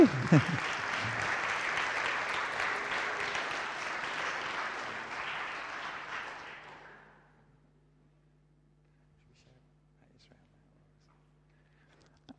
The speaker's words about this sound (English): Let's give the Lord a round of applause, okay?